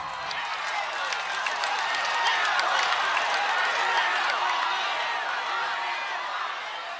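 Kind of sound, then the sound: crowd, thunderous applause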